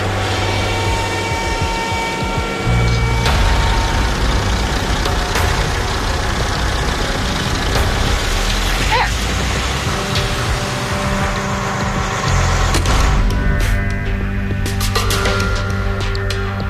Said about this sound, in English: Got the truck out of the way.